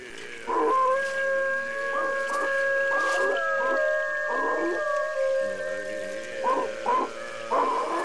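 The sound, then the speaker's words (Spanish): Coyotes howl in long, wavering, high tones that hold steady for several seconds, with shorter rising yips breaking in repeatedly. The sound is clear, with no talking. “Esas huellas le enseñaron al hombre que sus niños habían subido a una alta roca y ahí mismo se habían convertido en coyotes.”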